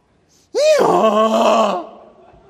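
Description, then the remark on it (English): A person vocally imitates a donkey attempting to roar like a lion: one loud, strained, groaning bray lasting over a second, with a rising-falling harmonic pitch, then a brief fading tail. “He decided to roar.”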